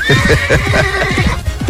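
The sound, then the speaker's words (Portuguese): A loud horse whinny with a shaky, rising-and-falling tone, over a quick run of hoof clip-clops. Nobody speaks. “Jumento não, moço, é pangaré.”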